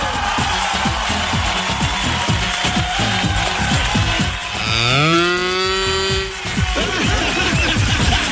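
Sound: cow mooing loudly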